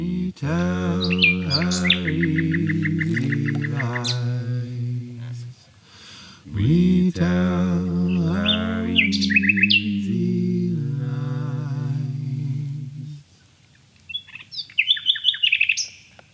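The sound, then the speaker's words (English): A nightingale sings in quick trills and repeated chirping phrases while a person makes music alongside it, weaving over a sustained, low instrumental melody that swells and pauses; the bird's bright notes return alone near the end. “My big moment for me, the kind of ta-da moment in the Nightingales, yeah, it's sitting with that bird and making the music”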